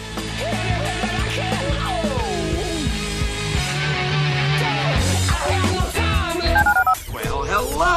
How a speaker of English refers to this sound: Dial the phone.